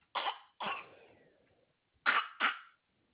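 Four short, sharp little coughs from a baby come in two quick pairs separated by a brief pause, fairly loud, with no talking around them.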